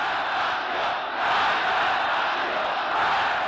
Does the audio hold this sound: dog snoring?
no